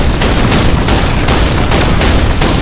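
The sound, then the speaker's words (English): Dense, continuous gunfire from cannon and machine guns on a ship's decks firing at another ship, with heavy booming blasts and rapid machine-gun bursts layered together, loud, forming a sustained roar of battle with no pauses. “The machine guns on the flagship's stern and prow decks raked the other ship, chewing through wood, ropes, sails, and flesh.”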